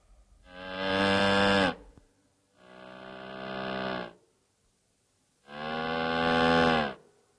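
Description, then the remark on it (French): An ondes Martenot mimics a cow with three long, buzzy moo-like tones, each swelling and sliding in pitch, separated by short pauses, loud with no talking. “La vache.”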